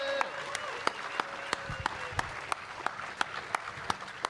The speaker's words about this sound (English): Please give her a huge round of applause, then. Thank you very much.